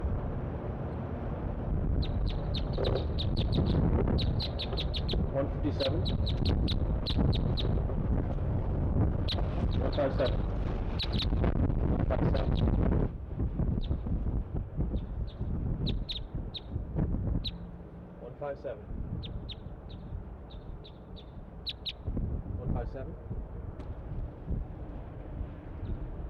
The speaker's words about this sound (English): All the birds are chittering, all three.